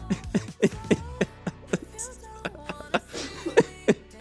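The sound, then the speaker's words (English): A burst of rhythmic, voiced laughter broken up by harsh coughs, a string of about a dozen sharp pulses, with a faint murmur of voices underneath, caught on a live mic during a break on radio station YO 88.9. “I laughed and the cough came out at the same time.”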